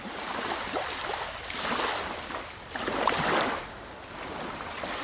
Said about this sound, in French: Et oui, c'est la mer, plus précisément, le ressac des vagues. Je sais pas toi, mais moi, j'adore ce bruit.